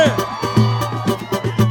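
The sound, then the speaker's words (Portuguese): A crowd of single women shouts and cheers over pounding live music, their high screams blending into a dense, continuous roar with a steady rhythmic beat underneath. “Cadê o grito da mulherada solteira aqui hoje?”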